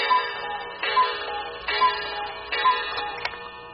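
clock ticking

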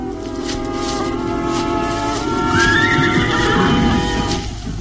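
horse neighing

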